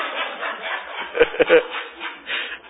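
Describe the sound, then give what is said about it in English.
A voice imitates loud snoring: a series of harsh, raspy, rattling snorts repeating in quick succession, with a couple of sharp clicks in the middle, and no clear words spoken. “And the bad thing about snoring is that the man snoring is enjoying himself in court, and you are suffering.”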